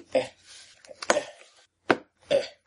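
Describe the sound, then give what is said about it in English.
Playing cards being shuffled by hand: four sharp, papery slaps at uneven intervals, with a soft rustle of cards sliding between the first two. No one speaks. “So now I'm having trouble doing a toss shuffle myself.”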